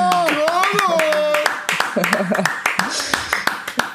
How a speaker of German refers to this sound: Und das alles einfach nur, indem ich, Achtung, 2-mal klatsche.